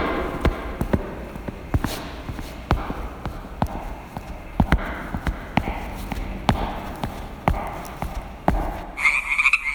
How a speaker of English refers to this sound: Mr. Treacle, I think what you're dealing with is frogs, not dragons.